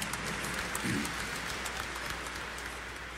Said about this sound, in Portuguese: Acolhendo os nossos concelebrantes, os ministros, acolhendo mutuamente com uma calorosa salva de palmas, bem-vindos, bem-vindas ao Santuário de Nossa Senhora.